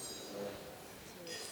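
Faint, scattered clinks of glasses ring out amid a low murmur of a crowd as guests raise a toast to absent family and friends, several light taps overlapping during the brief toast, with people chatting softly in the background.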